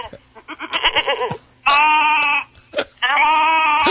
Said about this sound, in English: What now? That's a sheep. Sheep.